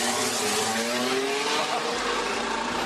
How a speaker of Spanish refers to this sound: Quiero que pongan el oído y que escuchen cómo suena el coche de Carlos Sainz.